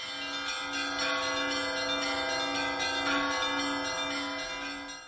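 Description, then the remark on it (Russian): Church bells peal continuously in a dense, ringing overlap, several bells sounding together with a steady, sustained clamor at moderate loudness and no voices, as the bishop proceeds into the cathedral. “Приняв святыню, под перезвон колоколов владыка проследовал собор, где был отслужен молебен святителю Феофану.”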